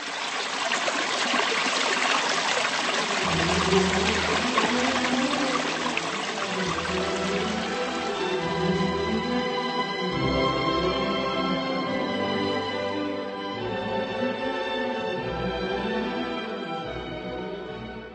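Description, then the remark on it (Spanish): Water trickles and splashes steadily inside a large echoing underground drinking-water reservoir of a Czech water treatment plant built in the 1920s, able to supply up to 2,500 litres per minute; the flow is continuous and fairly loud, with deep resonant hums ringing through the space and no voices. “su amplitud e incluso su sonoridad dan pistas de por qué recibió tal nombre un espacio”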